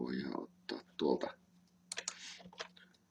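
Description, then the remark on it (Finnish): A short flurry of computer keyboard typing and mouse clicks, sharp, tapping in quick irregular bursts after a few brief murmured vocal sounds at the start, while something is being installed into Eclipse. “Ja klikataan se siihen.”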